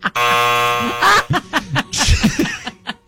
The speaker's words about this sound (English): So first one, see. Oh, see, you're already out. Give yourself a buzzer.